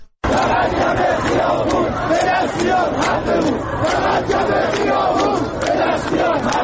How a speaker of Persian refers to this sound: صدای اعتراض شماری از مردم شهر کرد. حقی که آنها میخوان یک کلمه است: آب.